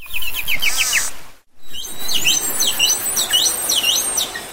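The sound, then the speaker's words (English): Two different beluga whales each whistling the whistle part of their call, unique to each beluga, in two separate bursts split by a short silence: first a quick run of short, chirpy high whistles, then repeated swooping up-and-down whistles over a steady hiss. “Here are two different belugas doing their whistle part in their own way.”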